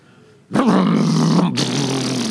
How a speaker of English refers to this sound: No, I'm telling you, one of the sweetest sounds in my life is the sound of a chainsaw, man.